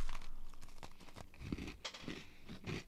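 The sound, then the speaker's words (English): Quiet crunching from a bite of chocolate dirt cake with chocolate cream and little gummy candy pieces, a series of irregular crisp crackles and munches with soft chewing sounds, no talking. “Let me crunch on you.”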